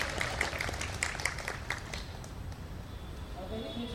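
A short burst of audience clapping for someone's question, scattered sharp claps over the first couple of seconds that quickly fade out into quiet background noise with faint murmur.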